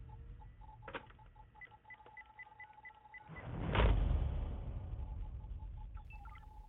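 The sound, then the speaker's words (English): Over a phone line, a string of evenly spaced electronic beeps and ring tones repeats against a low background rumble, broken midway by a louder burst of noise. No one speaks. A call to a phone number shown in a movie. “You hear phone, you hear typing and phones ringing.”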